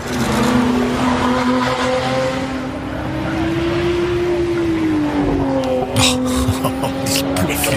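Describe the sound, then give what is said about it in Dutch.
The combustion engine of a Lotus Emira sports car, the last Lotus with a combustion engine, hums steadily, its pitch rising and falling through a revving swell, with sharper bursts of throttle and crackle near the end. The engine is loud and continuous, with no talking over it. “Hele bijzondere auto, want dit is de laatste Lotus met een verbrandingsmotor.”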